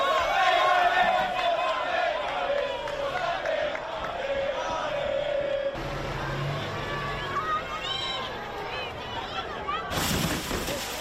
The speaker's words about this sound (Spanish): Eso que suena, Juanjo, es el autobús que se llevó la puerta del Coliseum.